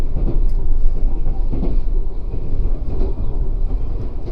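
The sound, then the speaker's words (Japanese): The Sakura sleeper train, which splits at Tosu Station in Kyushu, rolls along the rails with a steady, heavy low rumble and a dense rattling texture, loud and unbroken throughout, with faint clicks here and there and no voices. “九州の鳥栖駅で、それぞれ分かれて運転をいたします。”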